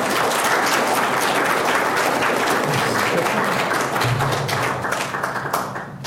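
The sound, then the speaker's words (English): An audience gives one last round of applause for the speakers after a talk, a dense wash of many hands clapping at once that holds loud and even for several seconds before thinning slightly at the end. “But in the meantime, one last round of applause for”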